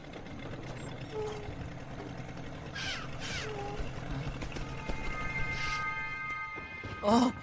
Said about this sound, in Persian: اون یه مرغ دریایی بود. جایی که مرغ دریایی باشه حتما یه خشکی هم هست.